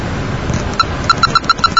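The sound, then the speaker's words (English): A quick run of short, high electronic beeps from a radio as its squelch control is turned all the way in one direction, about seven evenly spaced tones over a steady hiss of background noise. “Now I can adjust the squelch, and if I go all the way in one direction, I hear the beeps.”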